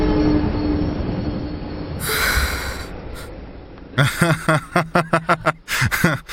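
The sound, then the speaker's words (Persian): A train rumbles in on the rails, a low roar building into a loud hissing rush, then a rapid series of sharp, rhythmic clanks and squeals as it passes. “یه قطار داره میاد، بلم کن. باید از روی ریل بریم کنار.”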